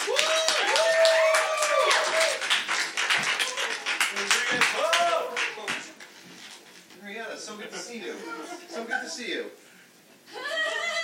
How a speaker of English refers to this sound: So please join me in welcoming, giving a nice warm welcome and a loud applause to